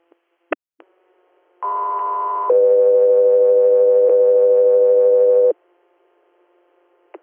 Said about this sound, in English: stand by for Tones.